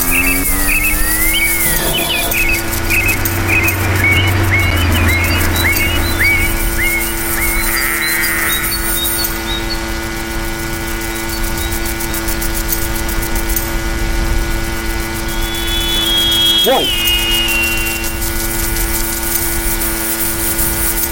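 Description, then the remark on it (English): In a video game, a car horn honks once late on at the player, a brief tonal blare over a steady droning hum, after a run of quick, repeated chirps near the start. “I think it was honking at me.”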